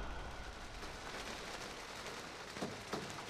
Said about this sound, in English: Rain falls outside the window of my hut quarters. I'm 18, in New Zealand alone, working at a national park called Tongariro.